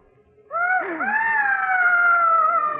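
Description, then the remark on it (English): A long, high-pitched scream that swoops up and then holds as a sustained, wavering wail for over two seconds, heard alone with no talking. “It's those screams.”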